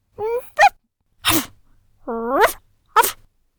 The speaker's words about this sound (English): Achoo! Achoo! Christopher sneezed. Ginger came in the room and sneezed too.